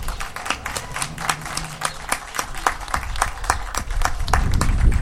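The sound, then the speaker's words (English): An audience applauds two teenage poets from a poetry slam, many hands clapping in a dense, uneven patter of sharp claps that holds steady for several seconds, with a low rumble swelling near the end. “Let's give them a hand clap offering.”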